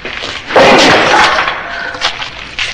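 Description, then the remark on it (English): A loud crash of a heavy wooden desk breaking apart, with a burst of shattering glass and clattering debris that fades, followed by a couple of smaller knocks and tinkles. “It's paper, glass, wood.”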